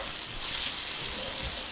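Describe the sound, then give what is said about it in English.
Onions sizzle steadily in a hot pan, a bright, continuous hiss with soft scraping and shuffling as they're stirred. Fairly loud, with no talking. “Ooh, and while I'm over here, I'm gonna stir the onions again.”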